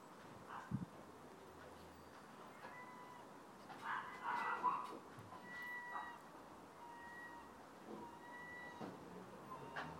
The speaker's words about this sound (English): Oh, there's another bird. What sort of a bird that is?